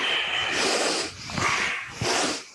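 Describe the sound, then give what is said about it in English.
Forceful, rapid nasal breathing in the breath of fire exercise, a steady run of sharp, hissy exhalations pumped in and out through the nose while the arms reach up and pull down, loud and continuous with no talking. “This is the breath of fire.”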